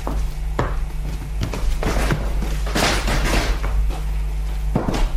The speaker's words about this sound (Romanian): Închide ușa și fereastră. Dacă ne aude cineva, suntem pierduți.